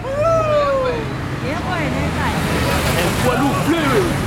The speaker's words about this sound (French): Ils écoutent l'autoroute, les voitures. Ils reconnaissent le bruit des moteurs. Volkswagen, Opel, BMW, Citroën.